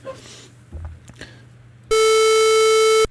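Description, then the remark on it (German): A loud, buzzy synthesized pulse-wave tone holds one steady pitch for about a second, rich in bright harmonics, then cuts off abruptly after some quiet rustling and small knocks. “Ist dann die Pulswelle schon sehr viel mehr Klang drin.”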